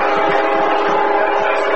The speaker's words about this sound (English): Now here comes the train. As a CSX flies through Booster Field, sounds like it's running right down the middle of the gridiron. Well, I'll tell you what, it's only about maybe 30 yards behind us.